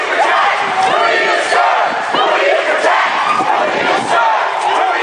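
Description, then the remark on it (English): A large crowd yells and roars continuously as it charges back, many overlapping shouting voices forming a loud, sustained battle-cry din with no pauses. “Crowd charges back.”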